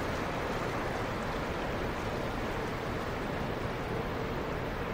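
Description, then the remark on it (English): A steady, unbroken rush of water and wind from the deck of a moving boat on open water, on a very hot day as the sun starts to come down, filling the whole clip at an even, moderate level with no voices. “I guess I'm looking westward now because the boat is moving away from where I'm looking.”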